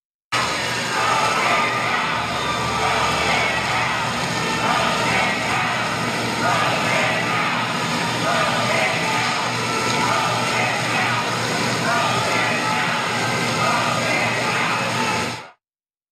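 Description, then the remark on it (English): A large crowd of protesters at the Supreme Court, where Donald Trump pays respects at Ruth Bader Ginsburg's casket, shouting together, including 'vote him out', a dense, steady roar of many overlapping voices that stays loud for about fifteen seconds before cutting off abruptly. “Yeah, so after a few seconds of those protesters, they decided to leave. They shouted, vote him out.”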